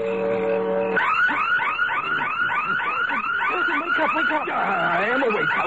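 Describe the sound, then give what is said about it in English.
A loud electronic burglar alarm blares continuously, starting with a steady buzzing tone and then cycling through rapid, repeating whooping sweeps, insistent with no voices. “It's the burglar alarm.”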